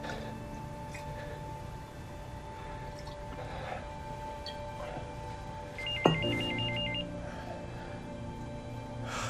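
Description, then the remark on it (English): Carl's phone rings once with a short, high electronic warble that rises clearly above a steady low hum of background noise. Nobody speaks. “Carl's phone.”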